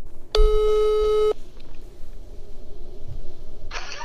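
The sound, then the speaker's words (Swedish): A single steady, low-pitched ringback tone of an outgoing telephone call sounds for about a second, followed by near silence and then a short burst of hiss at the end, with no talking. “Så vi ringer till honom och kollar.”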